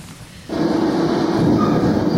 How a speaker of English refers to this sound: Trains are relaxing.